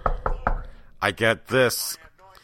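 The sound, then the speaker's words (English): Three quick, firm knocks on a door in an even rhythm, fairly loud, followed by a voice speaking briefly afterward. “I get a knock on the door, and I'm like, what's going on?”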